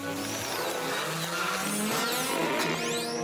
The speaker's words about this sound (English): Bueno, bueno, Magno, Chop, let's rev up. Okay, let's rev it. Kick it into from fast to mega blast.